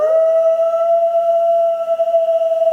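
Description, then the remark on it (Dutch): A wolf's howl holds one long, steady mid-pitched note with a faint harmonic shimmer above it, staying loud and unbroken for nearly three seconds with no other sounds. “Wolvengehuil kun je namelijk echt kilometers verderop nog steeds horen.”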